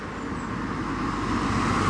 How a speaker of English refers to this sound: So we're just crossing the road, just waiting for the traffic to go, so we can see some more of these historic engravings.